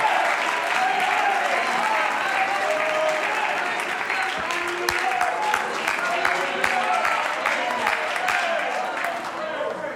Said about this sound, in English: Oh, would you clap your hands as if to thank God that somebody left the church building and they reached you?